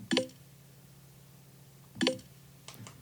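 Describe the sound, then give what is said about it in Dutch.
A phone notification tone called 'Druppel' (droplet), one of a new series of notification tones, plays twice, each a short, bright, bubbly blip with a quick ringing tail, about two seconds apart, followed by a faint softer click. “Capriol, druppel”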